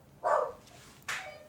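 A dog barks twice in quick succession, a fuller woof followed by a sharper, higher bark, clear against a quiet background with no one talking.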